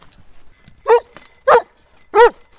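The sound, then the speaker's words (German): A search dog barks three times in a steady, evenly spaced series, each bark loud and clear against an otherwise quiet forest background with no talking, indicating a found person hidden in the woods during search training. “Wenn die Hunde den Ablauf richtig befolgen, heißt in den Wald rennen, nach der richtigen Fährte schnüffeln und den gefundenen Menschen mit Bellen anzeigen,”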